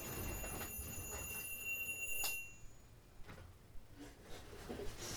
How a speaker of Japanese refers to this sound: ハプニングでしたね。なぜか目覚ましが鳴るというね、この。 多分、朝に、あれ、 うん。朝のやつが。 スイッチを消したはず、うん、あれ、オフをしたはずなのに、やってなかったってことですね。 そうですか。 はい。 はい。12時間後にまた鳴り出したってことですね。